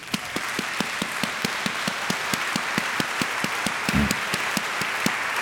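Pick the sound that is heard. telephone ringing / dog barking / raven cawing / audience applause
audience applause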